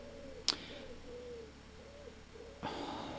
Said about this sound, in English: I'm sure there isn't a tree that close. There was a bird sounded just like that when we used to go camping. Well, caravanning.